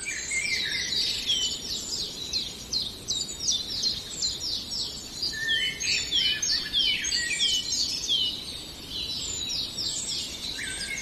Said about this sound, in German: Und dann etwas zarter. Hören wir den wunderschönen, perlenden Gesang vom Rotkehlchen.